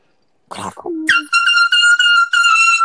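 A bullhorn, bought for a cheer competition, blares with a harsh, piercing, buzzy high tone. It sounds in four loud back-to-back bursts after a short rustle and a brief lower note.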